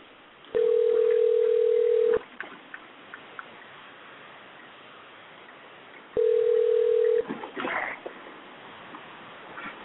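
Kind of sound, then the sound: signal or alarm, telephone dialing a number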